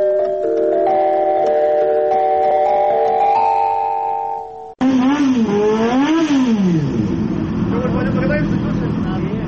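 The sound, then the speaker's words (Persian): A sustained musical chord cuts off abruptly, then a loud motorcycle engine revs, its pitch climbing and falling in surges before settling into a steady roar; a motorcycle of young Tajik riders planning a 10,000 km ride on US roads from Miami to Los Angeles. “گروهی از جوانان تاجیک نیت دارند که با موتورسیکل در راههای ایالات متحده آمریکا 10,000 کیلومتر را طی نمایند.”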